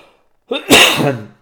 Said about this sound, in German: Ich habe diesen furchtbaren Husten. Den hatte ich jetzt die letzten 2 Monate eigentlich auch, dass ich immer mal zwischendurch so Hustenanfälle bekomme.